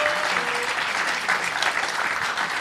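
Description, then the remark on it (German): Steady audience applause for a woman sitting on a green chair fills the whole moment, a dense wash of many hands clapping at once, fairly loud and continuous without a break. “Okay, ganz kurz Applaus für die Frau im grünen Stuhl.”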